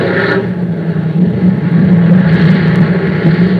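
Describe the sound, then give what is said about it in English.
A steady, loud droning engine roar of an airplane coming in to land on a carrier, a low rumbling hum that swells slightly midway and holds, with no voices. “I want to watch the planes approach.”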